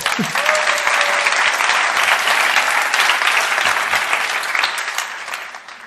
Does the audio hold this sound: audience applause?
yes